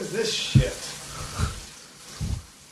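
Steady running water hisses from a tap while someone washes dishes at the sink, with three dull clunks spaced about a second apart, one at a time.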